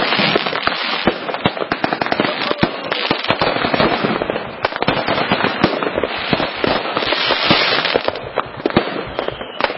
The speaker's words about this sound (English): To leftover fireworks. Hopefully they're not still being shot off in your neighborhood. That can be so annoying.